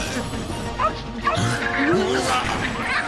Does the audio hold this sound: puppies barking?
yes